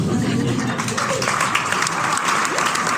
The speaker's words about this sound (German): Ja, Applaus, Applaus!